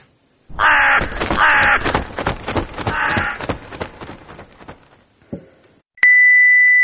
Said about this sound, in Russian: Ворон каркнул: «Отсоси».